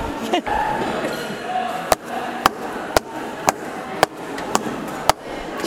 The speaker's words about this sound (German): Geräusch Nummer 1. Na, erkannt? Hier nochmal. Genau, das war Treppensteigen.